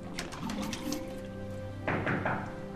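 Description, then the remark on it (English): A quick series of light, hard taps on dark wall tiles around a drinking fountain in a dimly lit, unfinished terminal, followed by a few louder knocks, over a steady low hum. “Victor taps on the surrounding tiles.”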